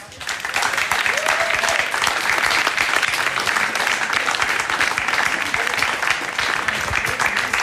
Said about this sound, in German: Ich bitte um einen donnernden Applaus.